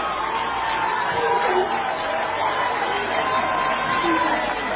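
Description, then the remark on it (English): A large crowd roars and cheers in a dense, continuous wall of voices, holding at a steady, loud level for the whole stretch with no single speaker standing out. “On the count of three, one, two, three, and the crowd goes wild, and the demons start obeying.”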